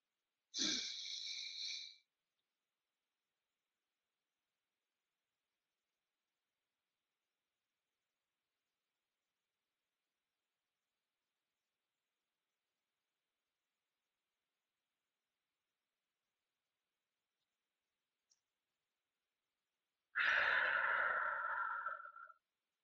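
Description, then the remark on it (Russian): An audible deep inhale through the mouth, deep into the chest, then nearly twenty seconds of silence while the breath is held as long as possible in a guided breathing exercise, ending with a long, breathy exhale. No one speaks. “Глубоко-глубоко грудью, задерживая дыхание на максимальное количество времени, пока получается.”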